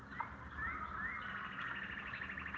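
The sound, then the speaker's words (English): Birds chirp and trill in quick repeated notes over a steady low rumble of city traffic, the song fairly faint and continuous throughout, with no one speaking. “Just enjoying the birds.”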